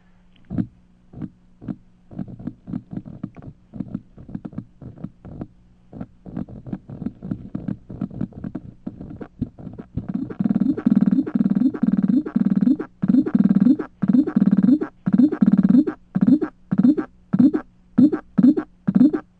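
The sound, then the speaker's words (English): A vibrational mating signal of the leafhopper Graminella nigrifrons carried through a plant: low, buzzy pulses that start as sparse clicks, then build into a loud, rhythmic series of throbbing bursts with a steady repeating beat. “And this is what you just heard is called Graminella nigrifrons,”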